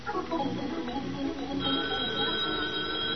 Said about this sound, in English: Oh, gee, I hope that's a date. There ought to be a way you could tell it's a date by the way the phone rings.